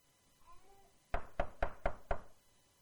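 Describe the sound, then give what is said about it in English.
Five firm knocks on a door in a quick, steady rhythm, loud, after a second of near silence with a faint murmur in the background. “Shouldn't be any knocks on the door.”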